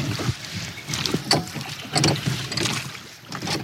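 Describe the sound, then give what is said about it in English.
Water sloshes and splashes around a small rowboat moving along at night, with irregular slaps and swishes over a steady wash, and a faint breath of wind. No one speaks. “As we leave the boat and head into the woods”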